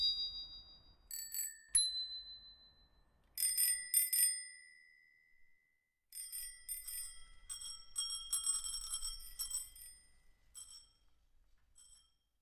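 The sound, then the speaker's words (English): A smiley bell on an ice-cream-green bicycle rings in several bursts, bright metallic dings with long shimmering decay, some single strikes and some rapid repeated rings, with brief pauses between them. “My bicycle bell came with my bike, which is an ice cream green.”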